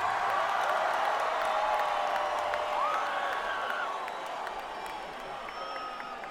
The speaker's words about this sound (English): Are you applauding us or are you applauding beer? I have to ask.